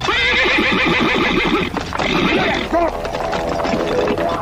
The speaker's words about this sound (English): He panicked, jumped on his horse, and started riding as fast as he could.